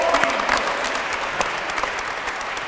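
audience clapping

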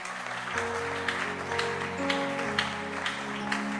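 audience clapping hands

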